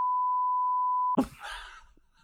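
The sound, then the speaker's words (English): A loud, steady censor bleep tone holds for about a second before cutting off abruptly into a brief burst of noisy, rustling sound that trails away. “You have to beep this, but Steve Carell.”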